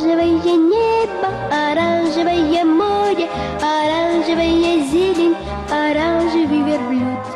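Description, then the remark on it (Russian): A Georgian female singer sings a bright, melodic tune, a song she first performed in the mid-1960s, in clear sustained notes, backed by a steady, bouncy instrumental accompaniment with a pulsing bass line, loud throughout. “Это звуковая визитная карточка грузинской певицы ….”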